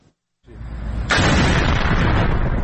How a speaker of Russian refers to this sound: Яркие взрывы и поврежденная крыша здания – это практически все, что достоверно известно об атаке на военный завод в Исфахане.